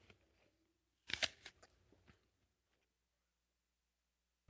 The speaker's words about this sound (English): Excuse my chewing.